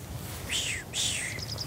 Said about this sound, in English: No, the little bird. That's a little bird. This one. Yeah. It's a chaffinch.